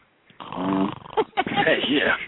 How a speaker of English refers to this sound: I'm snoring.